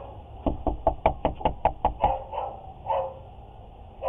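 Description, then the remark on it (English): A rapid burst of about ten loud, heavy knocks as an 18-year-old pounds on a front door around 2:30 at night to wake residents, with the orange glow of a fire behind and wind blowing, recorded by a home security camera, followed by a few short barks from a dog. “pounding on the door, and in the back, the looming orange glow of the fire, the wind whipping a tiny flag in the yard.”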